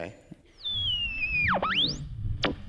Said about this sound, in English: Let's tune the dial.